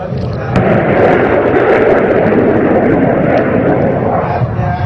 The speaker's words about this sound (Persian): همین موشک هم توسط سامانه های موشکی سپاه پاسداران شلیک شد و به ناو هواپیمابر دشمن فرضی اصابت کرد و با فریاد الله اکبر در جایگاه مواجه شد.